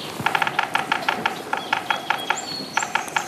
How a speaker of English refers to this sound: A big woodpecker sounds, and then a flight of geese.